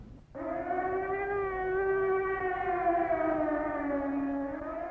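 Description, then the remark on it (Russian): An air raid siren sounds at 10:30, starting abruptly and holding a loud, steady wailing tone rich in harmonics, its pitch sliding slowly downward over several seconds, with a low rumble underneath and no voices. “Опять тревога.”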